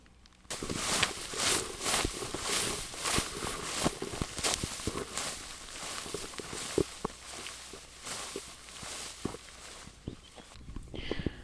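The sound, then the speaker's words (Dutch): Steady footsteps swish and crunch through a short, recently mown, herb-rich grassland field with clover, a regular walking rhythm with soft rustling between steps, no voices. “Zullen we daar naartoe lopen? Gaan we doen.”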